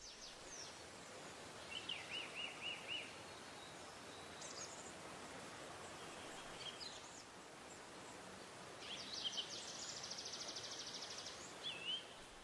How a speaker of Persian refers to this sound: صدای رود، صدای آب.